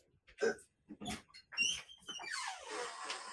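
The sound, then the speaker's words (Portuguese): A small female dog whines and grunts in short, squeaky bursts because she wants her lunch, followed by a longer, breathy snuffling noise, with no talking. “Ixi, minha cachorrinha aqui já tá louca porque ela quer almoçar aqui.”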